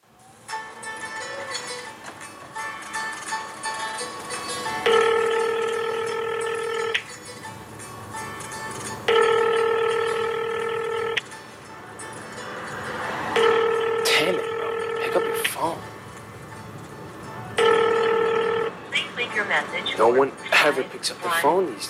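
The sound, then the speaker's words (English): A telephone rings four times in steady, evenly spaced bursts, each long electronic trill loud, with faint background murmur and clicks between rings, like a call waiting to be answered. “Phone these days. I'll leave him a message.”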